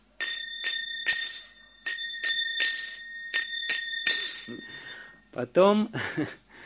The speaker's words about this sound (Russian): Первый звук, который они начинают слышать, это звук... Нет, не колокола. Звук караталов.